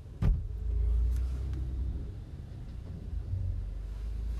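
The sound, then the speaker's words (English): A single sharp thump as a man opens his car door against the speaker's parked car, followed by a steady low rumble, with no talking. “Some bloke's just opened his fucking car onto mine.”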